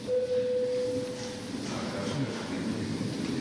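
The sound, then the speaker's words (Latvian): A single steady electronic parliamentary bell tone, rung before a vote on a bill, sounds for about a second and a half, then cuts off, leaving a low murmur with faint voices in the background. “Lūdzu zvanu.”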